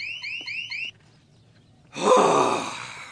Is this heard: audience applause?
no